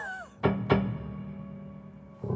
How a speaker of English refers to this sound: All kinds of wonderful percussive effects. And what's happening there? You're stopping it from ringing? I'm dampening the string, but I have the sustain on, So when the hammer strikes it, it makes that wonderful sound.